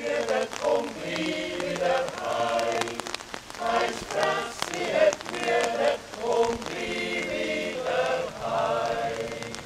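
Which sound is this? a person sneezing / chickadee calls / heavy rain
heavy rain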